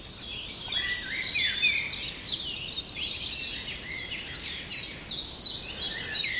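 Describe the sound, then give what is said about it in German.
A common chiffchaff sings its high, repeated two-tone notes in a steady, even rhythm, with other bird chirps twittering around it. No one speaks. “Und der Zipzap ist ein spannender Vogel, weil der wird oft vernachlässigt, was so die Vogelsprache angeht.”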